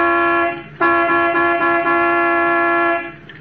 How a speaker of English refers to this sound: All right. I'll give it the horn. It don't budge.